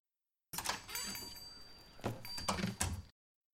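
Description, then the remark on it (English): The door of a diner in Maine swings open with the bell above it tinkling brightly, a thin ringing tone that lingers through a couple of seconds of soft rattling and bumps before stopping. “the bell above the door to the diner gives out its customary tingle.”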